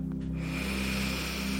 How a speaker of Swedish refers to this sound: Gör dig redo för dagens mindfulness-övning. Andas in.